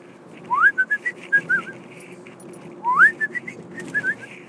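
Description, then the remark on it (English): A person whistles from memory the whistle Friendly used to call Jerome the Giraffe, a short tune given twice: a rising glide followed by a few quick level notes, then a pause and the same phrase again, clear with no talking. “But I still remember the whistle. Let's see if I can remember it now.”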